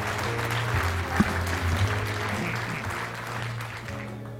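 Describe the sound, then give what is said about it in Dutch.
Sustained applause from a sizable audience at a political debate, a steady dense patter of clapping that stays fairly loud throughout with no voices standing out. “Applaus, dank je wel.”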